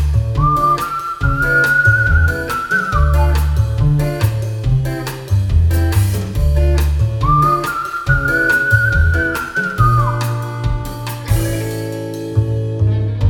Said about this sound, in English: We made cool themes for the characters, like this one guy in the movie who was always flirting and getting into funny romantic scenes. We gave him a cool guitar background and a funny whistle sound that made his adult scenes extra fun.